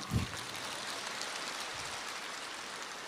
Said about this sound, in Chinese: 鼓掌。